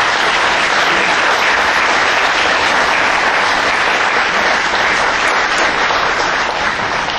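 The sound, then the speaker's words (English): Sustained, loud applause from a large crowd for the candidates in St. Francis County, a dense wash of many hands clapping at once, steady throughout with no voices standing out. “Please give a round of applause for our candidates.”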